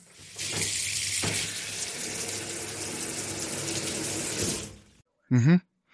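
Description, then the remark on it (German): Warm water from a shower runs in a steady hiss for several seconds, then cuts off abruptly, followed by a brief voiced sound. “Die warme Dusche.”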